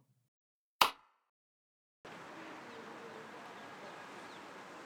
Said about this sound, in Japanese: ですから、ほら、こうやって手を叩くと、一瞬で家まで帰ってきたり。